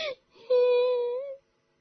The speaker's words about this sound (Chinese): 小铁猫止住了哭声，擦了擦眼泪说